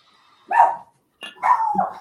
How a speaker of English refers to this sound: Nice. That's a great ending with the dog barking. Yeah. She's excited. Everyone should be excited.